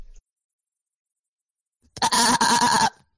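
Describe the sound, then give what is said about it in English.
A single loud, close, wavering goat-like bleat lasting about a second, most likely a person's voice imitating a goat, following a stretch of silence. “The goat looks up at you and bleats.”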